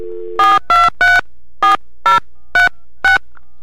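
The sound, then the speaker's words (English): A steady telephone dial tone cuts off into seven short, evenly spaced touch-tone beeps as a phone number is punched in to place a call, loud with no voices. “We're ringing old Fred Geiger.”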